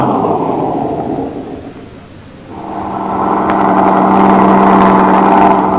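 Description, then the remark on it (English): A truck engine rumbles steadily, eases off briefly, then revs back up into a louder, droning hum with a steady low tone as the truck pulls out of a line of trucks over to the side. No voices. “Pull the truck out of line, over to the side.”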